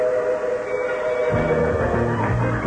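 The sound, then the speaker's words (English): A loud, steady train whistle blows for the whole few seconds, joined partway through by a deeper chugging, rumbling tone like an approaching locomotive, as a train carrying the next prize comes out on the game show The Price is Right. No one speaks. “We want that train out here because it has the next prize on it.”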